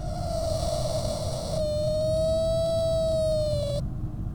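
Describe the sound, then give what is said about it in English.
A teapot lets out a strange, steady whistling tone as its pressure releases, holding one mid-high pitch for several seconds, growing brighter and buzzier partway through before cutting off, over a constant low rumbling hum, with an air conditioner running. “That was my teapot. My teapot makes this strange noise.”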